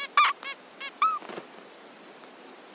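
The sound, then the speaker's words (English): Two zebra finch parents, a mother and a father, trade short, nasal, squeaky calls back and forth as they work out how long each of their egg incubation shifts will be, about half a dozen brief bursts, some loud and some soft, with no voices in between. “she was studying how mum and dad zebrafinches chat to each other to figure out how long each of their egg incubation shifts were going to be.”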